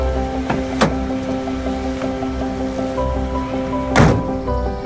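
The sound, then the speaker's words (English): A door opens and then shuts, giving two distinct thumps a few seconds apart over a steady low mechanical hum. Nobody speaks. “Ooh, sweetie, open the door. Get the door.”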